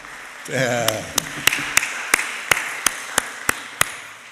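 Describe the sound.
A church audience claps for a newly engaged member in a steady, even rhythm, about a dozen sharp claps in a row, following a brief burst of voice at the start.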